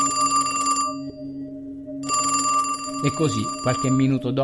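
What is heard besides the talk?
telephone ringing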